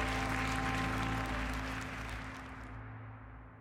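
crowd cheering and applause

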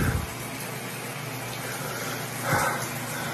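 shower running

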